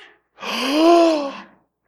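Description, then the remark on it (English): One voice imitates a crowd's shocked gasp: a drawn-out, breathy, voiced intake that rises and falls in pitch for about a second, then silence. “And the gasps.”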